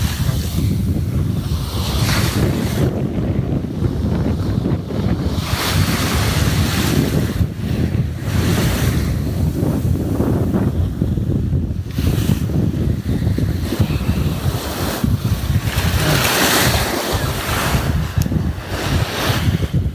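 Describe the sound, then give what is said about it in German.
Continuous surf with waves breaking and washing onto a beach, loud, rising in rolling surges every few seconds, with wind buffeting the microphone. No voices. “Ich wollte noch eine Podcast-Meeresschleife aufnehmen, deswegen.”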